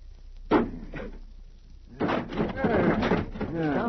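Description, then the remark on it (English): Two heavy wooden thuds land about half a second apart as a carpenter's axe bites into a thick, sturdy door, followed by a man talking. “What's a muscle behind that axe? It's been 15 minutes since they went in. Yeah, this door was built to stand.”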